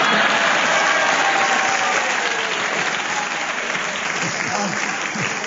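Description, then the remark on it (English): A steady burst of audience applause for a player's challenge for repetition of the word 'buttery' during a panel word game, dense and even in loudness throughout, with many hands clapping together and no voices rising above it. “you're the only person in this Herbert plays this game who gets a round of applause for challenging.”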